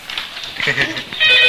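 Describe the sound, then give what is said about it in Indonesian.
A voice is heard briefly, then a loud, steady electronic telephone ring cuts in near the end, a bright buzzing tone held clear. “Duh, angkat teleponnya.”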